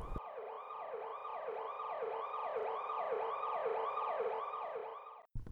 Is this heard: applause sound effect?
no